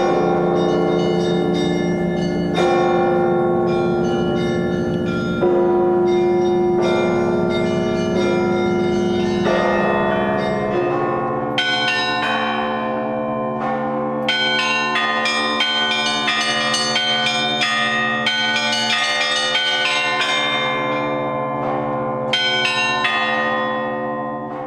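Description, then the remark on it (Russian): Church bells rung by hand by bell ringers in a cathedral bell tower in St. Petersburg, Russia, peal loudly and continuously, low heavy tolls sustained beneath rapid, overlapping strikes of smaller bells in an intricate, layered rhythm, with no voices. “Когда звонари выступали на колокольне собора, на большой экран проецировалось изображение.”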